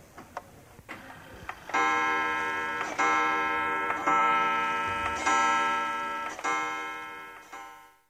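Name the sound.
kitchen clock ticking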